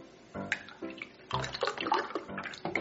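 Chocolate milk is poured into a glass without spilling, a steady burbling and splashing of liquid that swells and gurgles for a couple of seconds, with no one talking.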